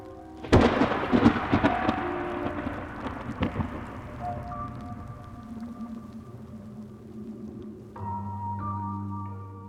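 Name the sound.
rolling thunder with rain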